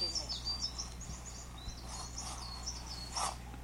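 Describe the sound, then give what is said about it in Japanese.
Several short, high chirping calls of a Japanese tit (shijūkara) repeat outdoors among metasequoia trees on a cool day, fairly faint against a steady low rumble, with quick bright 'chi-chi-chi' notes scattered throughout. “四十からだそうです。”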